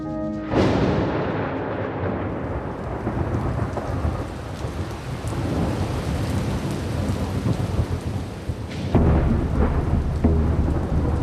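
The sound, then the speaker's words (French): Steady, heavy rain pours down while deep thunder rumbles and rolls through the storm, swelling loudly near the start and again toward the end, with no voices. “La pluie la précipite au sol avec ce premier bagage à qui elle sert de moyen de transport.”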